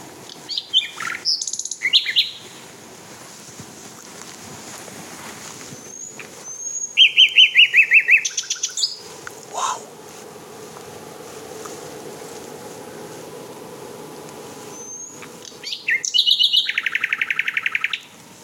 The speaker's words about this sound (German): Es ist so spannend, dass Nachtigall sich davon überhaupt nicht beirren lässt.